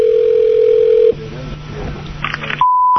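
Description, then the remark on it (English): Telephone line tones as a prank phone call to a clock repair shop connects: a loud steady tone for about a second, then a lower hum with faint line noise, ending on a high-pitched steady beep. No one speaks. “This is one of the funniest phone calls ever.”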